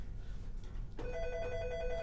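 telephone ringing

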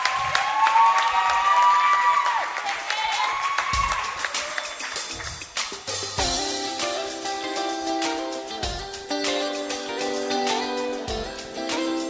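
audience applauding

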